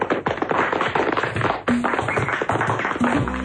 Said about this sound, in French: Les fruits et légumes du frigo enchanté sous la houlette de Concombre Charry ne purent s'empêcher d'applaudir.